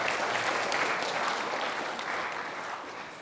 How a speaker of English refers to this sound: Let's give a round of applause to our volunteers. Woo!